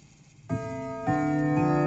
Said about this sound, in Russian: Как раз в этот миг часы султана пробили полночь, хотя за окнами дворца ярко светило солнце.